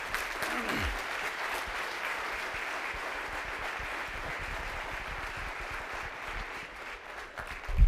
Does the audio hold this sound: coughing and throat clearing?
no